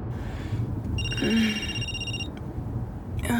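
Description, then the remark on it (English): A telephone rings once with a steady, bright electronic tone lasting just over a second, over a low, rumbling background. “Has that been ringing for long?”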